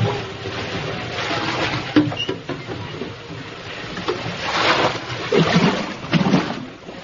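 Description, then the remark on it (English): A storm at sea: a steady roar of heavy rain and churning water, with waves surging louder in bursts toward the end. No voices are heard. “But the 10th day out, the wind shifted. The sea rose on its haunches, and it rained as I've never seen rain before.”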